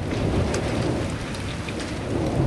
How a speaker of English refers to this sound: And then last month, like an answer to a prayer, the monsoons arrived. The National Weather Service's description, abundant moisture, slow-moving storms, is music to the ears of New Mexicans, as is the late afternoon thunder.